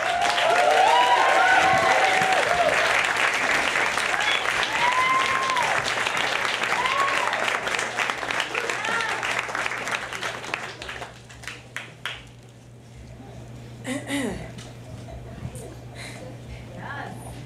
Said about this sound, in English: Very warm round of applause, please